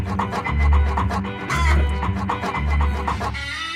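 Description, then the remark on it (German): Roosters cluck repeatedly and loudly, their calls overlapping above a steady rhythmic low thumping that pulses about once a second, with no voices speaking. “Genießt die Hähne.”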